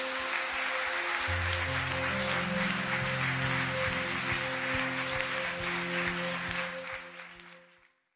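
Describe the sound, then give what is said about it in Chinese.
An audience at a worship service applauds to God steadily for several seconds, a dense wash of clapping over a sustained keyboard chord, then the applause tapers off and fades out at the end. “让我们把我们的平安还有掌声全都交给神。”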